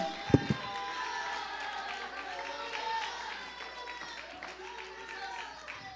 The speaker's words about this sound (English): If that's you, clap your hands and shout unto God. If it's you, say hallelujah.